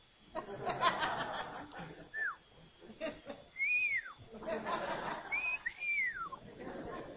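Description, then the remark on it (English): A person whistles several short, sliding notes that rise and fall, like appreciative whistles, with soft chuckling and breathy laughter between them, as church deacons pass the offering plate and see bills put in. “And as the deacons would pass the plate, if they saw somebody put, you know, bills in, not coins, but bills, they would whistle.”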